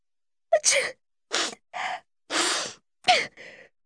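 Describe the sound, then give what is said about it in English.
A loud run of sneezes from someone with a cold, each a sharp breathy burst, some preceded by a quick gasping intake, coming in quick succession with short gaps and no talking. “A cold.”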